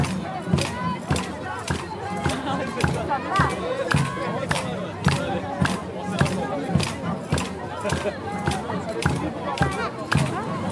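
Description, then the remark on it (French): A busy outdoor crowd at the Fête des Lumières street festival on square Léopold, with many overlapping voices of people, children and parents forming a steady babble, punctuated by frequent sharp, rhythmic knocks or claps throughout. “il y a des gens partout, tout le quartier est là. C'est très très mouvementé.”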